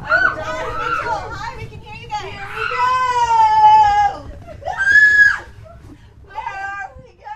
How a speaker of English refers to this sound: Okay, that's a lot of shrieking. But you know what? I can relate. The last time I was in this place, inching my way through this darkened, texture-filled obstacle course, I didn't know where I was going or what exactly I was touching.